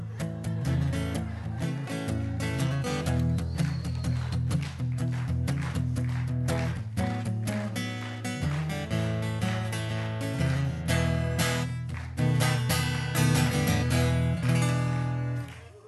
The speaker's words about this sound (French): J'entends du bon blues, mes amis.